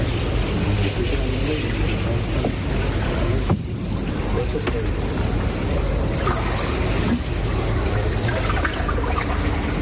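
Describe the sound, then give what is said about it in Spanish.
A steady, loud mechanical drone of water pumps running continuously to drain accumulated floodwater, with heavy low rumble and rushing, splashing water noise throughout, no pauses or changes in intensity. “Las bombas continúan achicando agua y los drones de la Policía Nacional siguen haciendo de avanzadilla.”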